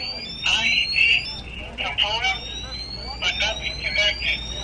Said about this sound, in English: The alarm still squeals. The readings are getting higher.